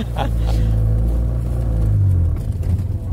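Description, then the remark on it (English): The engine of an old 1970s or 1980s vintage car, used on tours of the remains of Yugoslavia, rumbles steadily, a deep low drone with a faint uneven sputter and a slight shift in pitch partway through, loud and continuous with no voices. “When I sit inside this car, I really feel like I'm in a time machine.”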